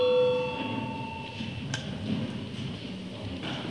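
A short, clear electronic bell tone rings once at the very start, a call bell in a parliament chamber before a vote, then fades into a quiet room hum with faint rustling and no speech.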